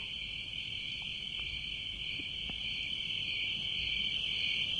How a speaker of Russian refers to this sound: Но тихо, вот уже запели цикады.